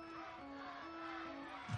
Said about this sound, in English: The chant of Let's Go Thunder goes up amongst the crowd on the pitch.